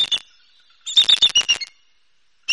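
An eagle gives a chortling warning call, as eagles do when another eagle or bird of prey comes through their territory: bursts of shrill, rapid chittering notes, a short run, then a longer stuttering series, then another burst after a pause. Clear, no voices.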